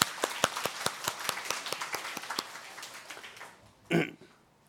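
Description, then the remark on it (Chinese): A group of people at a church worship service applauds to welcome a visiting pastor and his wife, with quick, sharp claps that gradually thin out and fade, followed by a brief rough vocal burst like a cough near the end. “我俾啲掌声欢迎佢哋。”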